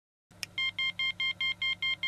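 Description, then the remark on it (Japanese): A light-sensing device, set in its brightest state, emits a rapid series of short, high-pitched beeps at quick, regular intervals, about eight in a row, with a faint low hum underneath and no talking. “本当に短い間隔で鳴るんですね。”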